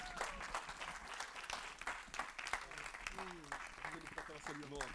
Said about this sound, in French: Est-ce qu'on peut l'applaudir, s'il vous plaît?